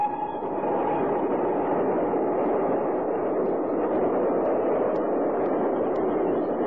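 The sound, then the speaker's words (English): A passing steam train, its smoke visible, gives off a loud, steady rumbling roar that fills the whole stretch without letting up, under an overcast sky amid farmland. No voices are heard. “The train, dear.”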